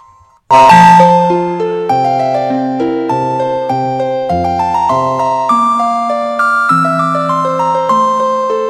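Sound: telephone ringing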